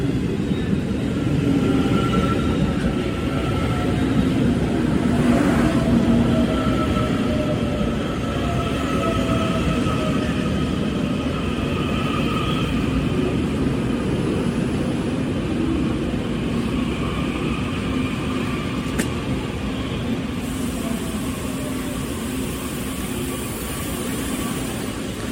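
A Taiwan Railway New Tze-Chiang electric train rolls into a station with a steady, loud rumble and whining motor tones that shift in pitch as it slows, continuous for the whole stretch with no voices.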